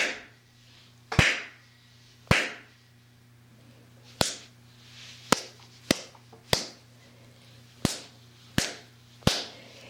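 Nine sharp belt lashes crack out at an uneven pace, each a loud, bright smack that fades quickly, over a faint low hum with no voices.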